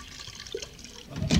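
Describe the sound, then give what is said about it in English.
A short pour of cognac into Polly's dish: a soft, steady trickle with a faint drip midway, then a louder splashing gush at the end. No one speaks. “I'll pour a little into your dish.”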